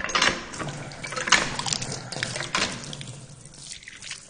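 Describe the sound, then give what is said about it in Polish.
Cold holy water gushes and splashes from the spout of a well pump at the chapel of St. Anthony in Łagiewniki, Łódź, in uneven surges, fairly loud, then tapers into a softer trickle. No one speaks. “Tutaj łodzianie przyjeżdżają po wodę święconą. Jest taka pompa, studnia.”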